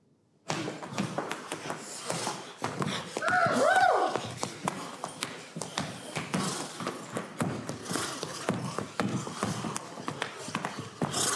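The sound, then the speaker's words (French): An actor vocally imitates a horse, with rhythmic clip-clop trotting taps, a breathy snort and a rising whinny in the middle, fairly loud throughout. “vous faites remarquablement le cheval, le trot, le souffle, le hennissement, bref, tout y est.”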